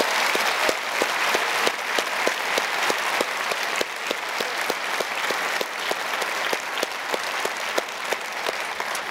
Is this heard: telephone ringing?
no